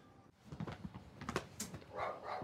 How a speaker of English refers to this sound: Uh-oh. Attack dog.